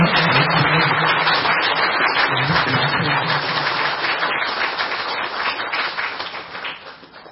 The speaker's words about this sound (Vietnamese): Xin đại chúng cho một tràng pháo tay.